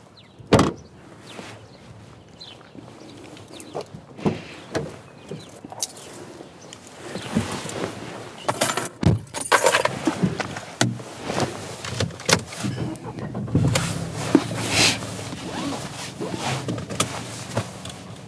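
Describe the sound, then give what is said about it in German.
A dog named Jasper jumps into a car on command with scuffling thumps and rustling, followed by a car door sliding and clunking shut. No one speaks. “Inzwischen steigt Jasper echt gut ins Auto rein, also auf Kommando sogar, wenn draußen nicht gerade was viel Spannenderes los ist.”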